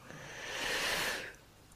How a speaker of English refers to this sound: Oh, yawns are welcome as well. Wonderful.